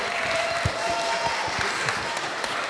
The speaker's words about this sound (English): Hey! Round of applause